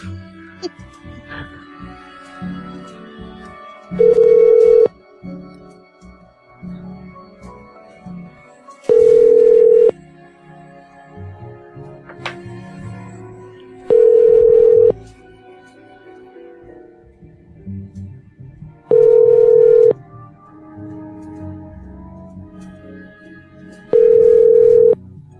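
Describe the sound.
An outgoing call rings five times, each steady ringback tone lasting about a second and spaced evenly several seconds apart, with muffled voices and room noise in between.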